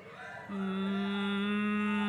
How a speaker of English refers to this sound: That's a generator. It's doing a G sharp, and we're trying to sing in G. That's tough.